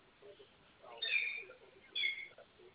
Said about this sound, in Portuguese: Ele não pode ver um barulho de gente falando que ele começa a miar pra poder vir brincar. Aí tá lá no quintal.